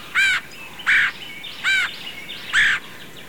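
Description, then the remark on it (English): Four harsh, raspy red-headed woodpecker calls ring out at a steady, unhurried pace, each a short, loud, buzzy note, standing alone with no talking. “Red-headed woodpeckers are one of only a few woodpecker species known to store food for later”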